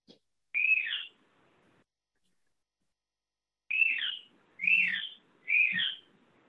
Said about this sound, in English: I think it's an Australian bird.